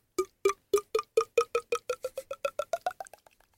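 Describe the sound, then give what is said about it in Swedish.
A voice imitates wine glugging out of a bottle: a quick run of hollow, popping gulps that speed up and climb in pitch before trailing off softly, with no talking. “Låter som att man häller ur en vinflaska.”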